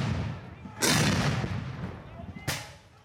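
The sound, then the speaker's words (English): Two loud booming shots, about a second and a half apart, from rifles and cannons at a battle reenactment during fall muster, with men in Union and Confederate uniforms on a long field, crack out over a low rumbling outdoor din, the first blast with a long rolling tail like cannon fire. “They carry rifles and flags and push cannons into position. Then the fighting begins.”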